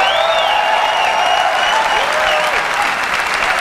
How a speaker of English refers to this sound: And we are calling it iPhone. Yeah, I saw those geeks clapping. Today, Apple is going to reinvent the phone.